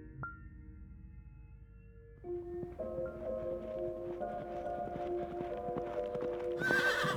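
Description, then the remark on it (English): A horse whinnies with long, wavering neighs while hooves clip-clop steadily, the sounds growing louder and busier toward the end, with no talking. “When their father's horse came home alone, the merchant's children were annoyed.”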